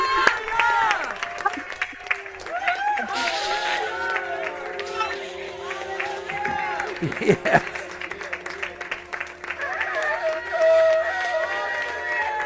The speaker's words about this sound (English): Here we go. 1, 2, 3. Yes. Let's shout. Let's do it. Yes.